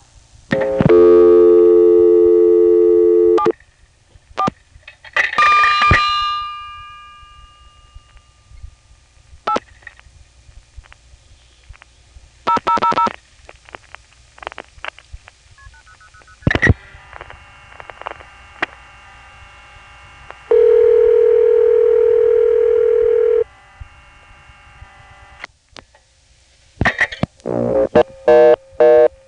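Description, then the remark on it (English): A steady dial tone comes through a payphone line for a local call, then rapid clicks and clunks of the handset being dialed, the first two digits dialed without a coin inserted, with bursts of tone, a long steady tone later, and faint line hum throughout. “In any event, here's a local call. Notice how I can dial the first two digits without putting the coin in.”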